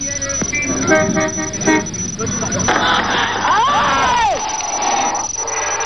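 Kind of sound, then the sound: crowd, crowd cheering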